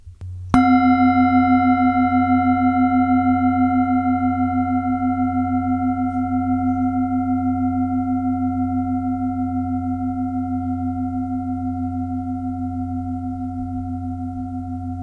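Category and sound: signal or alarm, gong ringing and fading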